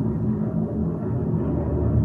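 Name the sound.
airplane flying overhead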